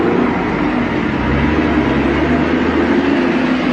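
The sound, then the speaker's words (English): A tractor-trailer truck rumbles past, its heavy engine drone and road noise loud and steady for the whole few seconds, with no one talking. “A highly positive, but unfortunately not tractor trailer truck free episode.”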